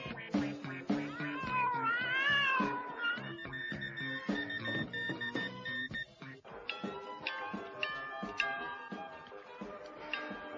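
Several cats on the shore of the English Channel meow and caterwaul over one another, a steady stream of wavering, drawn-out yowls and shorter cries, loud, with no one talking.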